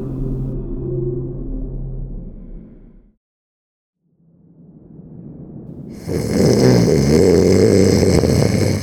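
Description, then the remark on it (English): Deep, rumbling snores rise and fall with a brief silent pause between breaths, the second one swelling into a louder, harsher rasp, with no talking. “tossing and turning every few minutes, trying but failing to ignore the rhythmic snores”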